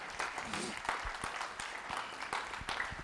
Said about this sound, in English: Please give her a round of applause as she comes up to the stage.